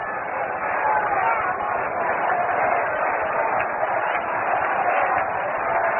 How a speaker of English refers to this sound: And the crowd comes alive here at Shea Stadium with a chant of Let's Go Mets.